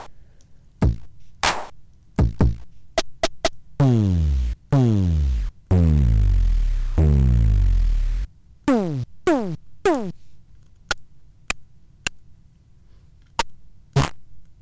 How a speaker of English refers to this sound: And I thought, well, maybe it needs some bleep drum. We haven't gotten the bleep drum out in a while, have we? Who remembers the bleep drum? It's this thing.